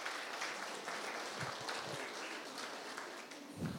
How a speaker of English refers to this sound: Let's really honor these guys. Can we give them a round of applause just as we pray?